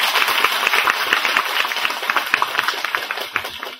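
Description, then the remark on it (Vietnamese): A crowd applauds steadily at a Vietnamese Buddhist talk, a dense wash of many overlapping claps that holds at a fairly loud, even level for the whole few seconds, with no voices on top. “Chúng ta phải có một tràng pháo tay 8 tháng không?”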